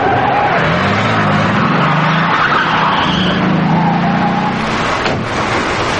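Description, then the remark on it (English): A truck engine roars as tires squeal and skid through a sharp turn onto a side road, followed by a van, loud and sustained, with a brief thud near the end. “Robert suddenly turns onto a side road and Frost follows.”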